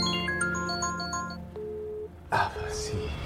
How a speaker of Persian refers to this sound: موبایل پارسا زنگ میزنه.